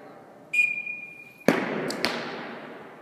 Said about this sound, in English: 11 men and women are shooting arrows at a row of yellow, blue, and red targets. We're in a cavernous ice rink at the Glenwood Springs Community Center.